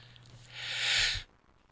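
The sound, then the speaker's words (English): A single breathy sneeze bursts out, fairly loud, building quickly and cutting off sharply after a moment, with no talking around it. “Excuse me, I've got sneezes going on.”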